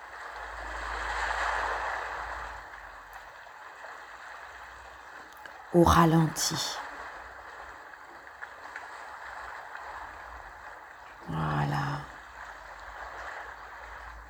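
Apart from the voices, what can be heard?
ocean waves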